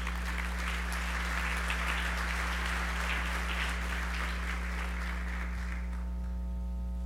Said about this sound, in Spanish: Para él también, un caluroso aplauso, por favor, si fuesen tan amables.